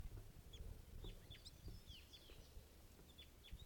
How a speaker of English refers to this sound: Wild bird here.